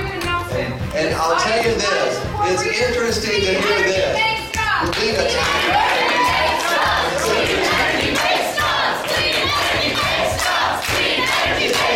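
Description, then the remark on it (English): Climate protesters crash a press conference hosted by a climate-denial group, shouting and chanting together, voices overlapping continuously in a dense, agitated roar, with no pause throughout. “On Friday, troublemakers crashed a press conference hosted by those climate deniers from Americans for Prosperity.”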